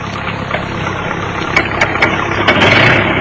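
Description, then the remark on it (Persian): A steady, loud rumble of heavy engines as large tractors move through golden fields on both sides of a road, with a few sharp mechanical clanks cutting through the continuous drone. “دو طرف جاده مزرعه های طلایی رنگی بود که تراکتورهای بزرگ داشتن اونجا حرکت میکردن.”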